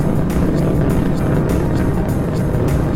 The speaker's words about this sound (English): 30 seconds into the flight, the three liquid fuel main engines will soon throttle back to 72% of rated performance in the bucket to reduce the stress on the shuttle as it breaks through the sound barrier.